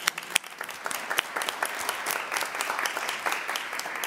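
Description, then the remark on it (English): An audience claps steadily for several seconds for the speaker's mother, a dense patter of many hands with a few sharper claps standing out, moderately loud, without any voices. “So can you just clap for my mom real quick?”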